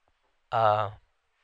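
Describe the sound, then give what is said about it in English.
A single short cat meow, about half a second long, clear, with silence before and after and no talking around it. “y'all hear the fucking cat?”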